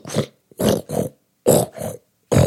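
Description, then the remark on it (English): A plunger pumps a drain clogged with hair, soap, shampoo and grime, making six wet, gurgling squelches in uneven pairs, each a short, loud, throaty burst like a grunt, with brief silences between and no talking. “Then I took out the plunger and I started pumping the drain.”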